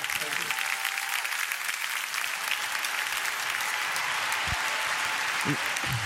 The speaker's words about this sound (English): Dale un fuerte aplauso a Jesús, por favor. Give him your best clap offering in the house.